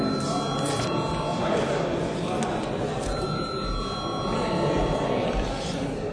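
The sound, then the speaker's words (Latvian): A parliament chamber bell rings continuously for about six seconds before deputies vote on a bill in its first reading, a steady, loud electric clang that never pauses, with a low murmur of people talking beneath it. “Lūdzu zvanu.”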